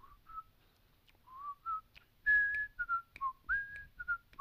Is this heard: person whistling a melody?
yes